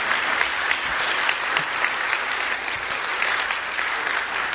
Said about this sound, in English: Yeah, you can clap. I think that's really cool.